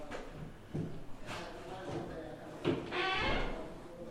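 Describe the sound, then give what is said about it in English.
A classroom door swings shut with a short thud, followed by a scraping rattle as it settles, amid faint room noise and indistinct voices. “And you probably close that door too, because I talk pretty loud and I don't want to interfere with other classes.”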